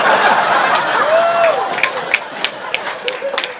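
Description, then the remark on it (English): An audience applauds and laughs at a story being told, in a dense, steady wash of clapping mixed with laughter and a brief rising whistle, then it thins into a few scattered, sharper claps. “You guys are clapping and laughing at the story.”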